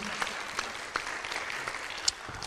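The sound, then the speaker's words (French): An audience at an evening event applauds the sign language interpreters steadily, a dense wash of many hands clapping at once with a few sharper individual claps standing out, moderately loud throughout and without any voices. “Donc merci à vous deux, on peut les applaudir.”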